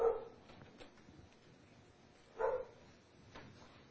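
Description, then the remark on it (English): A dog gives two sharp barks a couple of seconds apart, with softer whimpering and yips in between and no talking; the dog seems happy. “The dog seems to be happy.”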